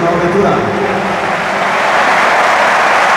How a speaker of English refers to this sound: You're hearing it here. This is the applause for Kefren Turam. Yeah, he's been replaced by Nicolò Fagioli.